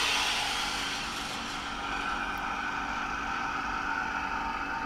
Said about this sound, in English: All right, so we're ready to switch on. Let's hear what it sounds like. Yeah, you ready? I'll just switch the vacuum pump on to take the air out, so you'll hear that starting to run. Here we go.